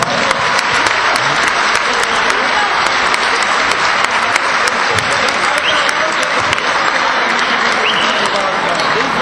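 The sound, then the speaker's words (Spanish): A crowd applauds steadily for about nine seconds, a loud, dense wash of many hands clapping with no pauses or build-up, and no voices standing out. The applause is for a futsal team from Jumilla, last year's group champions. “Son los campeones de grupo del año pasado, eso se merece un fuerte aplauso.”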